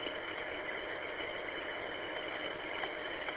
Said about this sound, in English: Try to fix up the driveway a little bit, I guess. My little tractor on behind, and here we go.